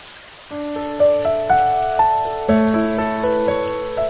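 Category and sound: nature, heavy rain pouring down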